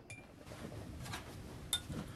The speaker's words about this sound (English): He takes a bottle of beer from the fridge and opens it.